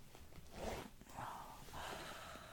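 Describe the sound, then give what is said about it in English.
A zipper on trousers being pulled down in a few short, soft, quiet rasping strokes, after a belt is undone, with a brief rustle between pulls and no voices. “Yeah, let me just undo this belt. Pull the zipper down.”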